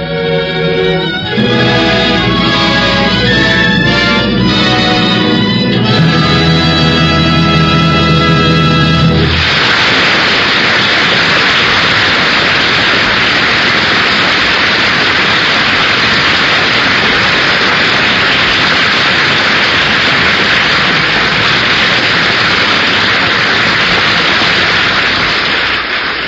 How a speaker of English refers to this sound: The audience here in NBC's Studio 6A has been applauding the final curtain of the Ford Theater's presentation of the Sinclair Lewis classic, Aerosmith.